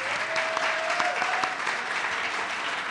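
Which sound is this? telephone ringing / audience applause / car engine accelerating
audience applause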